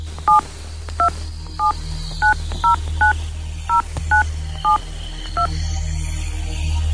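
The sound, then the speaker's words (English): A mobile phone number being dialed on loudspeaker to call a store in Joondalup: about ten short dual-tone keypad beeps in an uneven rhythm, clear over a low steady background hum, with no talking. “please, so I can dial it into my phone?”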